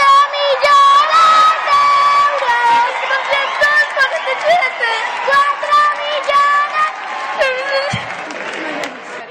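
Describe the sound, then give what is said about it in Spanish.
A loud crowd cheers and shouts continuously at a lottery shop celebrating a win of El Gordo, the top prize of the Spanish Christmas lottery, with high-pitched voices ringing out in sustained, sung-like calls over the excited din for the whole stretch. “Era el gordo de la lotería de Navidad y se desató la euforia en una de las administraciones más conocidas”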